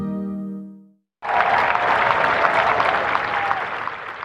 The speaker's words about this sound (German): Jubelnde Anhänger stehen entlang des Bürgersteigs. Ein schwarzes Auto fährt durch die berühmten Eisentore. Ein neuer Premierminister trifft in der Downing Street ein.